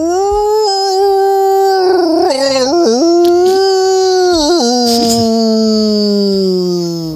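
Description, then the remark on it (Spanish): A scriptwriter imitates a howling wolf or dog in one long, loud, sustained howl, its pitch wobbling and dipping in a few places before it slowly trails off. “Y la respuesta es... ¡era guionista!”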